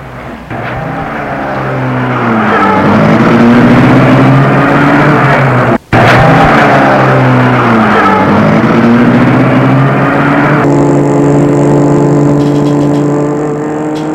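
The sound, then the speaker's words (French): A car engine starts up and revs hard as the car pulls away, its pitch climbing through several gear changes before settling into a steady, loud drone. No one speaks. “il rentre lui aussi et met la voiture en route.”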